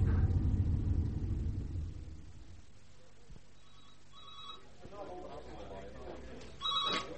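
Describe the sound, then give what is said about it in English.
A telephone bell rings in short, bright bursts, two close together and then another after a pause, over a low background rumble that is heaviest at the start. “some bird on the phone for you.”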